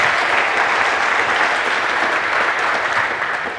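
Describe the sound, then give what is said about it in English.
Steady audience applause welcoming a speaker to give a talk, a dense wash of many hands clapping at an even, loud level throughout, easing off slightly at the very end. No speech over it. “One an applause for him.”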